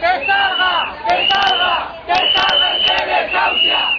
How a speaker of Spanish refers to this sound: la concentración se escucharon gritos de rabia por la muerte de Amparo, que es considerada como un auténtico asesinato de la administración, y gritos de protesta y para evidenciar que la lucha ciudadana continúa contra los continuos abusos del poder.